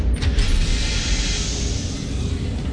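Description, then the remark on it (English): A door creaks open in one long, steady groan, loud, with a dense rasping grind that holds for a few seconds without pause. No one speaks. “He opened the door and saw the havoc Zit had made with the radio smash-up”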